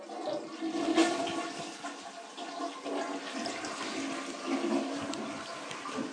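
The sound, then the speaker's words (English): A toilet flushes, a steady rushing gush of water that swells and churns for several seconds with gurgling surges, heard alone without any talking. “Let's flush.”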